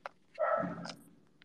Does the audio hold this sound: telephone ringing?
no